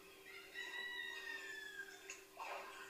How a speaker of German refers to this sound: Natürlich sind in der ländlichen Gegend auch Bauernhöfe, deswegen hören wir den Hahn.